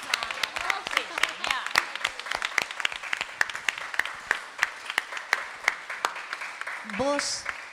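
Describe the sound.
A standing audience applauds in tribute to a musician, many hands clapping in a dense, irregular patter with sharper individual claps standing out, and a brief voice calls out near the end.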